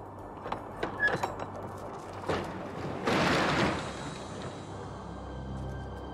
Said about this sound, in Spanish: Ya más tranquilo, el camionero abre la puerta.